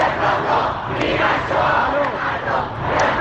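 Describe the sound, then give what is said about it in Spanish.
A dense crowd of street protesters shouts and chants together in a steady, loud roar of many overlapping voices, with occasional sharper cries rising above the din throughout. They are protesting an initial cover-up after a missile mistakenly downed a Ukrainian plane, some shouting for a referendum. “Luego de que reconociera que uno de sus misiles tumbó por error un avión ucraniano, sectores de la población se han lanzado a las calles a protestar por el engaño inicial.”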